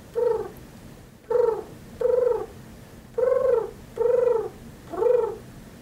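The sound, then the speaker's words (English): A pigeon cooing in six short, mellow, slightly rising-then-falling calls, each about half a second, repeated with brief uneven pauses over a faint steady background hum. No one speaks. “Do you hear him? It's an impressive pigeon sound.”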